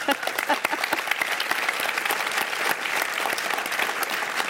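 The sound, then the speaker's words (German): An audience claps steadily throughout, a dense, even patter of many hands with no voices standing out, holding at a fairly loud level for the whole stretch. “Man sagt ja, es bringe Unglück, zum vorher gratulieren, aber ein Applaus ist das auf jeden Fall wert.”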